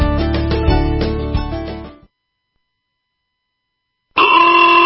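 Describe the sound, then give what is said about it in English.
A loud, sustained blare of car horns lasts about two seconds and cuts off, then after a pause of silence another brassy horn blast starts up. “Why do I hear honking?”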